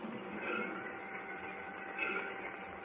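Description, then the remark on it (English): A train at a railroad station gives off a steady mechanical rumble and hiss with faint whining tones, swelling slightly twice, sustained throughout at moderate volume with no voices. “Well, I believe it's a train. Well, you're right. We're at the railroad station.”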